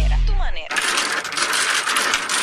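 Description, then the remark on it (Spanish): Domino tiles being shuffled and clacking together on a table in a Cuban domino game, a dense, continuous rattle of many rapid hard clicks that starts abruptly after a brief low murmur and continues steadily. “Los cubanos respiramos profundo cuando chocan esas fichas a la voz de ¡dale, dale, dale, mucha agua!”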